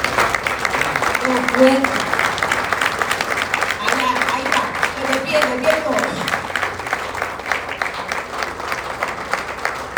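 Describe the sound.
An audience applauds their parents steadily for the full stretch, a dense, even wash of clapping with scattered voices and murmured speech mixed in beneath it.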